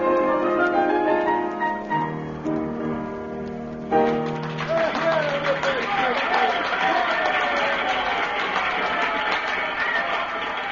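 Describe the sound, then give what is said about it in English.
A few sustained musical chords end an evening performance in a cafe, then the cafe audience bursts into loud, steady applause mixed with excited cheers and shouts for more that keep going without a break. “The cafe, it is filled again tonight, and everyone is shouting for more.”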